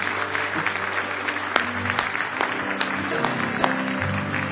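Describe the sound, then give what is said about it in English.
An audience at an evening church service breaks into sustained applause as praise to the Lord, many hands clapping in a dense, steady wash of sound with a few sharper claps standing out, over a low sustained organ-like tone. “Give the Lord another big hand clap of praise.”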